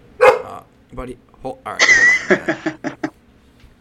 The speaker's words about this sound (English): I'll be right back. My dog is going nuts.